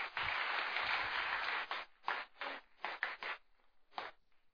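A burst of audience applause welcoming a woman to speak at a Spanish-language church service, dense and steady for under two seconds, then breaking into scattered, fading claps that trail off over the next few seconds. No one speaks.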